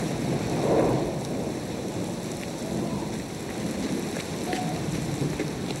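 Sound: rain with thunder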